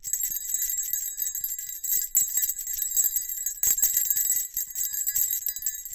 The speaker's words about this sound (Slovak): Táto kovová plašička vydáva totiž pri pohybe výrazný cengot, ktorý zviera počuje až do veľkej vzdialenosti.